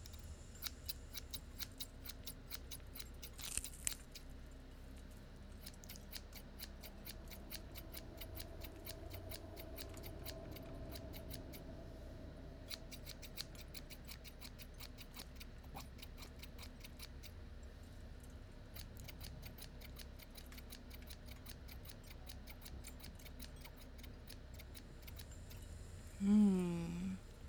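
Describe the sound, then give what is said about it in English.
Scissors snip over and over in a steady, rapid rhythm, fairly quiet, over a low background hum, with a brief louder sound near the end. “I didn't bring a lot with me, but I brought my trusty scissors.”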